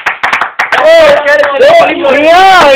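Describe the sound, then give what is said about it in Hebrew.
A short burst of applause for a man who gave the correct answer, several sharp hand claps in quick succession, then a loud voice starts talking as the clapping fades. “אז הרב אומר, איש העשרית אמר עשה בדיוק את התשובה, כפיים לאיש, כפיים לאיש.”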